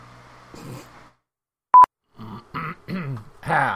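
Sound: cough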